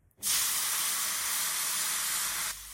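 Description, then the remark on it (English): A steady, loud hiss of food sizzling in a hot pan starts abruptly and holds evenly for over two seconds before cutting off. No voices are heard. “Sizzle. The food is sizzling.”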